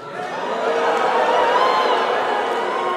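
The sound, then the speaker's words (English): A live theater audience at the Pabst Theater cheers and whoops after the Chicago Cubs are called America's greatest baseball team, a dense, steady roar of many voices that swells in the first half-second and holds loud and continuous for about three seconds. “The crowd.”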